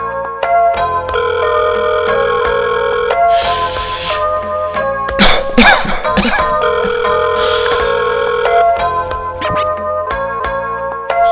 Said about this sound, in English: Answer the phone, damn.